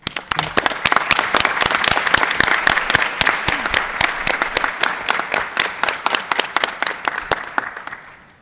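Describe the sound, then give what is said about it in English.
An audience at a committee meeting applauds for about eight seconds, many hands clapping in a dense, steady patter that holds fairly loud before thinning out and fading at the end. “Thank you very much, and I think this merits an applause.”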